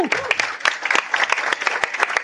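An audience applauds, dense overlapping hand claps forming a steady, fairly loud patter that holds without a break for a couple of seconds.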